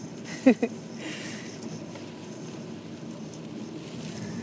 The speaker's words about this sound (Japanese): うわ風強いよ。 こんな天気悪いと一回上がったらもう今日は一日外に出ないかもしれないしね。よいしょ。暴風雨ですね。暴風雨みたいですね。